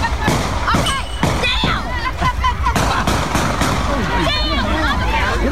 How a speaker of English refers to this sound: Nine gunshots as gunfire followed Saturday night's Mardi Gras parade.